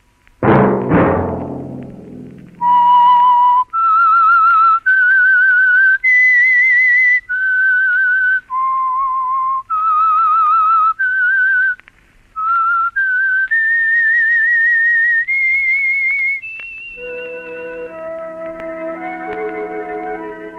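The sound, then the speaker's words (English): A whistled theme melody of the Household Finance Corporation radio program The Whistler, slow, sustained notes with gentle vibrato, loud, opening after a struck orchestral chord and ending as a soft orchestral chord takes over. “Let That Whistle be your invitation to the Household Finance Corporation program, The Whistler, each week over these stations.”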